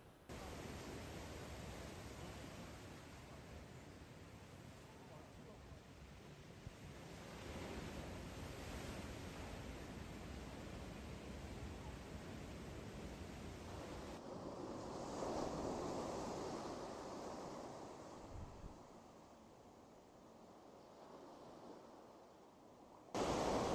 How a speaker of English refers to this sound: there is warning after warning out here posted and signs, you know, that when the ocean gets like this, it's dangerous and it's, there could be bacteria and fun stuff like that. But it is, it's just relentless. You cannot be out here.